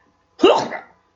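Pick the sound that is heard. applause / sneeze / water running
sneeze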